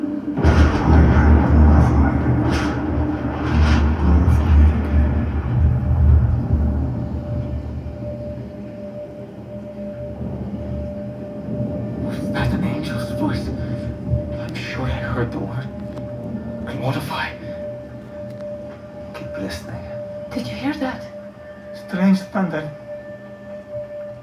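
A loud, deep rumble of thunder rolls for several seconds, then slowly subsides into a lower grumble broken by a few sharp crackling bursts.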